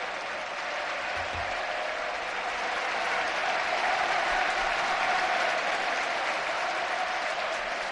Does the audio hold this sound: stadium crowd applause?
yes